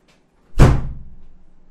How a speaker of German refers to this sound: So, Leute. Nicht wundern, das war meine Tür.